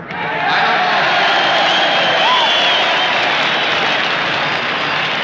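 A huge festival crowd of about 500,000 roars and cheers as Farmer Yasker salutes them from center stage, a dense wash of voices, whistles and applause that swells in after a moment and stays loud and steady throughout.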